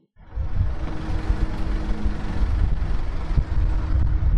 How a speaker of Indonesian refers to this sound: Sejak pagi, beberapa truk berisi sampah masuk ke area pembangkit listrik tenaga sampah PLTSA Merah Putih Bantar Gebang, Bekasi, Jawa Barat. Di sini, sampah-sampah itu bakal diolah menjadi listrik.